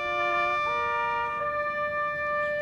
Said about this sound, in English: The ceremony to dedicate that new memorial started with the tower chimes. Then the playing of taps.